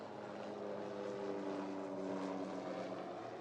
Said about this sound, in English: I'm just going to wait for about 10 seconds for that helicopter to finish going overhead so you can all hear me.